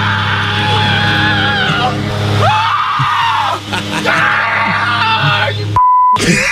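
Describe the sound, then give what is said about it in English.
A person playing video games screams loudly and continuously in long, strained, pain-filled yells, ending abruptly with a short electronic beep. “Just the video games, but it sounds like I mean, that scream is more like pain-filled than people getting burned alive on Game of Thrones.”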